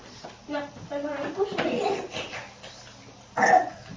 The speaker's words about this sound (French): quand tu tousses. Là, baby, tousse dans les nez.